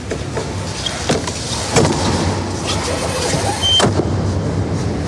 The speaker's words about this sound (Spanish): Y ahí se cerró la puerta de la Capilla Sixtina